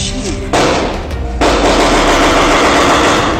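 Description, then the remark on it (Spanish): Police shotgun fire aimed at protesters at short range erupts in two loud, harsh waves, the second swelling into a dense, continuous crackle of rapid shots that blends into a roaring wash of noise until the end. “La policía disparaba a manifestantes a distancias cortas, utilizando fusiles AK-47, AR-15”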